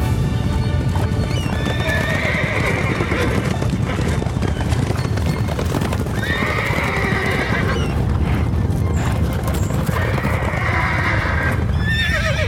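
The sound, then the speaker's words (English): A herd of wild horses on an island gallops with a loud, continuous thunder of hooves, while horses neigh and whinny again and again over the pounding. “Which means we're right in the path of the wild horses!”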